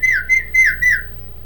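A person whistles four quick, bright notes in a row to call horses out in a pasture, each note sliding slightly in pitch, fairly loud, then trailing off into quiet with no talking.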